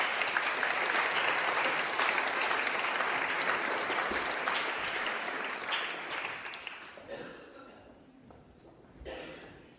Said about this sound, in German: begrüßen wir mit einem Applaus und ihr dürft euch auch gerne wieder setzen.